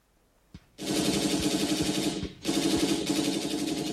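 A single sharp report, then loud, dense machine-gun fire with deep cannon booms thudding underneath as German troops attack at Stalingrad; the barrage breaks off briefly and resumes just as heavily. No one speaks.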